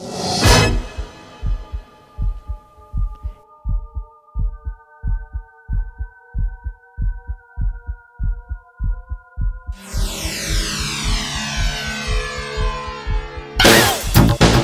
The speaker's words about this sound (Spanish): Son sus propios latidos, dices. Son sus propios latidos del corazón.